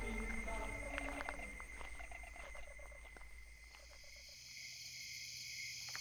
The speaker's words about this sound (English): Damn frogs! They're everywhere! Come on, come on, hop out of the way.